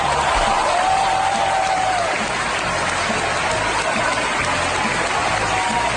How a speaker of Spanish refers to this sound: ¿Cómo fue recibido Plácido Domingo? Pues en vez de contártelo yo, ¿qué te parece si escuchamos esta ovación que tuvo el tenor?